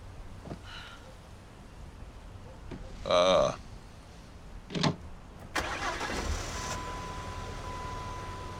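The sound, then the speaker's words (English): A car engine with a brand-new battery cranks in short bursts, then catches and settles into a steady idle, with no voices. “Find that it starts better when it's in park.”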